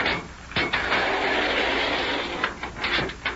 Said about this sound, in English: Why, that door slides down. Yes, Mother. I presume there is no room for it to slide in any other direction. That's right. We're in a narrow ledge of rock in the edge of the old volcano crater.